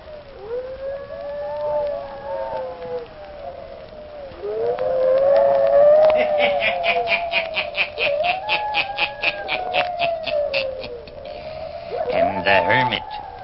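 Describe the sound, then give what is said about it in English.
Several hounds howl together in long, wavering, rising and falling cries, loud, with quick yipping bursts in the middle and a final quavering howl at the end. “Listen in again next week for my hounds howling.”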